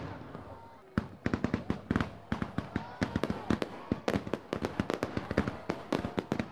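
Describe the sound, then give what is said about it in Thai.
After a brief quiet moment, New Year's Eve fireworks erupt in a dense, irregular barrage of sharp bangs and crackling pops, loud and continuous to the end. “คือบทสัมภาษณ์แนะนำจุดชมพลุในวันส่งท้ายปีเก่าจาก3เมืองหลักของออสเตรเลีย”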